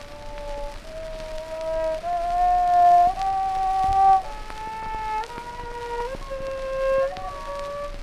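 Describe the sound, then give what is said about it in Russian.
A violin plays a slow scale of about eight sustained notes as a demonstration for children, each bowed note sliding into the next with a thin, wavering tone. It is fairly loud, with no talking over it. “Итак, детки мои, я вам сейчас покажу гамму.”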